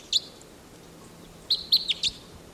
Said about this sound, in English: Wild bird.